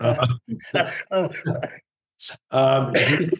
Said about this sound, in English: you got the cough too. Everyone has gotten this. It's just we're all sick right now.